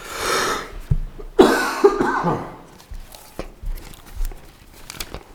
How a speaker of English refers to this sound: I'm going to try not to cough my way through this. We'll see how it goes.